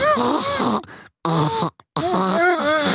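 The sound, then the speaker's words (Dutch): A person imitates an elephant's trumpet with loud, wavering, brassy vocal blasts in three bursts separated by short silences, the pitch sliding up and down. “door geïnspireerd kan je even de olifanten toeter nadoen?”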